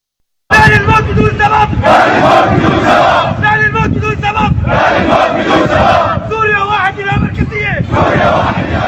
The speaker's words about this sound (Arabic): وردد المتظاهرون شعارات تطالب بالفيدرالية والإفراج عن المعتقلين والتوقف عن الممارسات الطائفية التي أرهقت أبناء الطائفة على مدة عام، منها المجازر التي ارتكبت بحقهم.